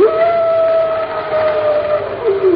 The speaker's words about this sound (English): Man, that wind is really howling. That isn't the wind, Pat. Those are wolves.